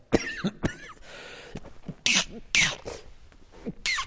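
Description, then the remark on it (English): A person coughs several times in a row, fairly loud, with harsh bursts separated by short pauses and a faint throat-clearing quality between them. “Excuse me, I need time out to cough on this one, and I better do it now.”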